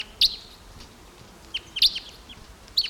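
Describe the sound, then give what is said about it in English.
Crossbill calls, including a deep-voiced male: a few sharp, high-pitched chip notes, some in quick pairs, spaced irregularly across a few seconds over a quiet, faintly hissing background with no talking. “Some crossbills here now. There's a male. Deep voiced male here.”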